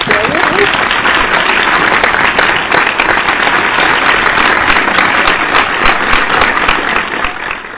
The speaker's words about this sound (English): That is really, let's give him a little hand clap.